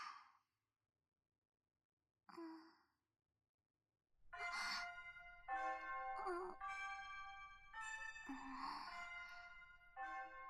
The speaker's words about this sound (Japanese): 無粋なチャイムさんですの。